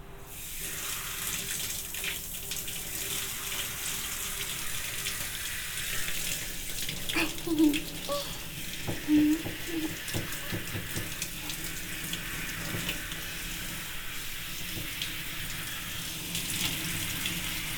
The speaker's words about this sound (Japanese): まずはシャワーで髪の毛濡らしていくね。